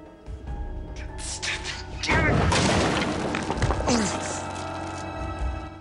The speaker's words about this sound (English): Damon's thumped a wall. Are you okay?